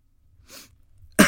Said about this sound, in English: Oh, God, I coughed. I'm sorry. I just coughed. I'm sorry.